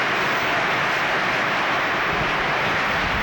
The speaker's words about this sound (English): Well, it rains on this tin, it makes a racket. See, this cover is tin.